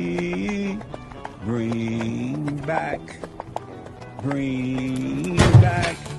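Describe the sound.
Horse hooves clip-clop in a steady, crisp rhythm throughout, beneath sustained voiced tones, with a louder burst of noise near the end.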